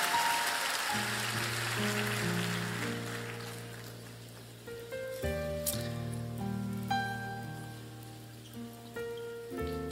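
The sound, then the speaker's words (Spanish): A church audience, rising to its feet, claps steadily for Jesus, the dense patter loudest at the start and gradually thinning, while sustained keyboard chords swell and change underneath. “Denle un aplauso a Jesús y póngase de pie.”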